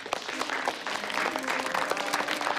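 A crowd breaks into steady applause, many hands clapping in a dense, crackling wash that holds at an even loudness for a few seconds with no one speaking.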